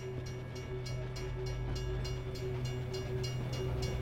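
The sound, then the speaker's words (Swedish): A freight train rolls steadily along the rails, a deep continuous rumble with a quick, regular clickety-clack of wheels over track joints, fairly loud, with no voices. “Då så packades vi in i ett godsvagn, godståg.”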